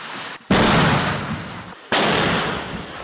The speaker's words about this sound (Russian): И вот конкретно в этот момент идет очередной штурм. Выстрел за выстрелом. Минометы не успевают остывать.